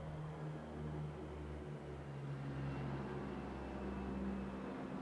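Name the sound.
helicopter flying overhead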